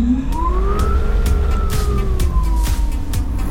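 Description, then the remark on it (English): An electric motor driving a propeller, just powered on, whines with a smooth tonal hum that rises in pitch, then slowly sinks, layered over steady low rumble and faint clicks, continuous. “Sounds like an office fan”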